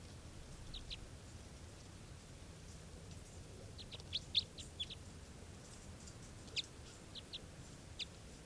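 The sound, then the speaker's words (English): A wild bird gives short, raspy call notes, a few scattered bursts with a cluster in the middle, fairly faint over a steady background hiss. No one speaks. “That was the wild bird. It's got a kind of a low raspy call.”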